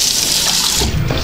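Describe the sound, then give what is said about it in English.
Water runs steadily from a tap on a bathroom sink built into a vanity unit, a loud, continuous splashing hiss that holds even throughout, with a slight gurgling shift in tone near the end. No one speaks. “A couple of taps on the sink.”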